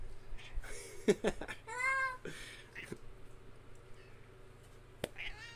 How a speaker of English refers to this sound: Apparently, our cat has to come out here and talk